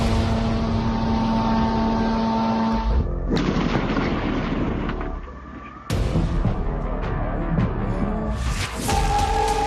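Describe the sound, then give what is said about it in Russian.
Heavy explosions boom and rumble at night during strikes on targets around Nikopol on the right bank of the Kakhovka Reservoir in Ukraine, a dense, loud roar of blasts and low rolling thunder that cuts abruptly between bursts, with no voices. “На кадрах ночные удары по целям в окрестностях Никополя на правом берегу Каховского водохранилища.”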